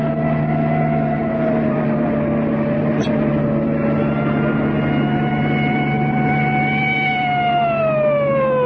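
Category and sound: vehicle, police car siren approaching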